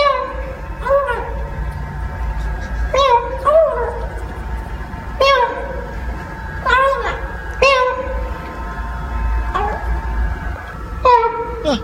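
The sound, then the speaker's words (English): A kitten stuck in a drainage pipe in California cries, giving about eight high, wavering mews in an uneven series, some doubled, over a steady low rumbling hum, as a police officer lures it out with a piece of burrito. “A cop in California saved a kitten from a drainage pipe on Monday by using a piece of burrito to lure it out, and we have a clip.”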